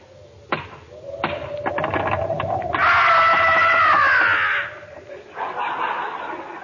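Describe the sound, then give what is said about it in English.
A single sharp thump, then a quick series of rapid knocks on a door in the dark, followed by a loud, high, wavering screech that fades into softer rustling. “Knock on the door, Rochester.”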